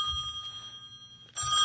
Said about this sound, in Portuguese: O telefone tocando ali, ó. Deixa eu atender, peraí.